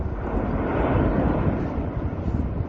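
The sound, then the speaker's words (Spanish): A constant, heavy roar of a volcano expelling lava fills the whole clip, deep and rumbling like a low-flying plane that never passes, steady in loudness with no voices over it. “Un ruido muy similar al de un avión volando cerca, pero constantemente.”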